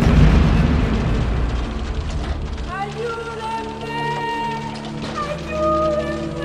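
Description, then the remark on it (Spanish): A heavy downpour of rain roars steadily and loudly on people driving along a road, making it impossible to see. A deep rumbling low end in the first seconds, then it continues beneath sustained tonal, voice-like sounds layered over it. “La lata es que con este aguacero no se ve nada.”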